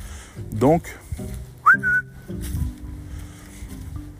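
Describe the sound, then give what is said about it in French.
Someone whistles to call back their own dog: a quick upward-swooping whistle, then a second one that rises and holds a steady high note briefly, over low rumbling background noise. “Donc, pour le coup, je rappelle mon chien parce que je vois en face, ils ont un petit chien tout fou, mais ils l'ont lâché.”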